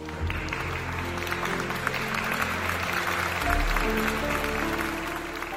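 A crowd bursts into loud, dense applause as a speaker finishes talking, many hands clapping at once in a steady, unbroken wash that lasts the whole stretch, with a low steady drone underneath.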